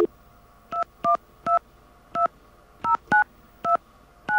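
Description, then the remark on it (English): A series of touch-tone beeps as the same phone number is keyed in again with a 1 in front of it, eight short dual-tone bursts in an uneven rhythm, clear with no voices. “All right, now I'm going to try the same number. I'm going to put a 1 in front of it.”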